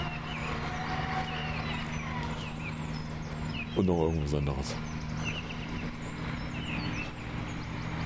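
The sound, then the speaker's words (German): A construction compactor tamping down the ground drones steadily, with a brief louder sputtering burst midway through; a voice speaks briefly over the machine. “Ach, so ein stampft den Boden fest Dingens, ja, von mir aus.”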